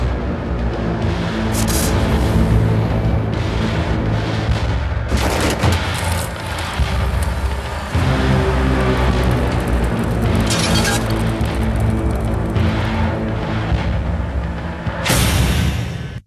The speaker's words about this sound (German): So, ich habe hier nochmal einfach so zum Hören nochmal diese Präsentation, wie dieser Ferrari aus dem LKW fährt. Fahr ab.